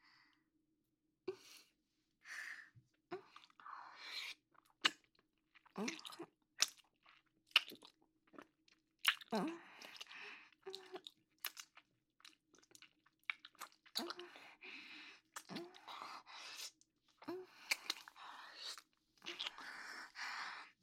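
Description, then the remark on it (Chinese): Someone chews a meat bun with moist, smacking bites, an irregular run of short crackly mouth sounds that grows busier and denser toward the end, with no talking. “是是是，宝宝肉包最好吃了。”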